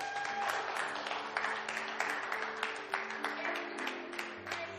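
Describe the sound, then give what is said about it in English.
An audience claps steadily as an offering of praise to the Lord during a sermon, a dense wash of many hands sustained throughout, with soft held keyboard tones underneath. “And the Lord needs a clap offering of praise for that.”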